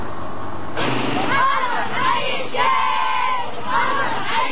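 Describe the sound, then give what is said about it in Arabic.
A crowd of townspeople chants in the streets of their town as thanks to those they call defenders of the homeland, in loud, rhythmic bursts of many raised voices, the rising and falling shouts repeating steadily over a constant background roar. “هتاف تردد في شوارع البلدة، عربون شكر من أهلها لمن أسموهم حماة الديار.”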